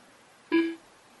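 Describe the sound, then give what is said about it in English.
A single short electronic beep from software, signaling that a file transfer is underway, clear and fairly loud, lasting about a quarter second with a steady tone and faint harmonics, surrounded by quiet background hiss. “There's a little beep to tell us the transfer is underway.”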